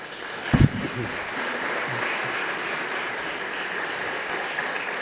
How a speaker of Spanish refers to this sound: Y un aplauso de nuevo, por favor.